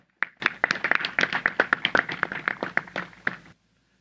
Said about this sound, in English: Please give a big round of applause to Taufeeq Pasha.